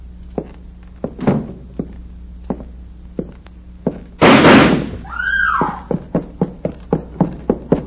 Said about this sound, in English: He stepped out of the parlor right after I closed the door, shooting the place to pieces.